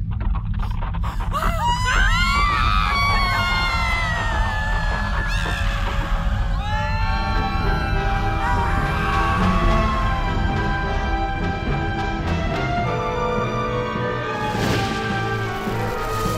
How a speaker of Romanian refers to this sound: Ascultați! Ce se întâmplă? E un cutremur!